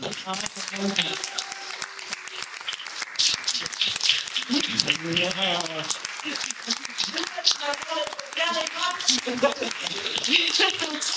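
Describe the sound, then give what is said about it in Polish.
An audience claps steadily for about eleven seconds after a played performance, the applause directed at a woman who helped prepare it, a dense, even crackle of many hands, while voices talk and call out over the applause. “a zwrócę oklaski na szczególności jej.”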